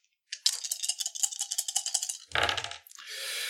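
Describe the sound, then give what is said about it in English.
Dice rattle in a cup with quick, bright clicking for about two seconds, then spill out with a heavier clatter and a low thump before a steady hiss of noise, a roll in a tabletop role-playing game against two red dice. “And this is again against 2 red dice.”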